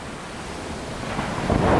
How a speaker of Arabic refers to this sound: وهو خارج من ميناء موالي ضربت عاصفة عنيفة، الرياح القوية هزت الأشرعة ودفعت السفينة ناحية الصخور.